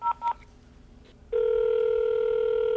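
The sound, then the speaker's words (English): Two quick touch-tone phone beeps as a job seeker dials a business number from the phone book, followed after a short pause by a loud, steady telephone tone that continues to the end. No one speaks. “I was just calling to know, are you guys currently accepting any applications”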